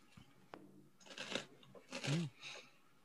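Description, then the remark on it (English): Crisp, crackly crunching of someone biting into an apple, coming in about three short bursts spread over a few seconds, fairly quiet overall, with a faint low hum briefly under the second bite. “That's that crunching you hear. That was … eating an apple I just gave him.”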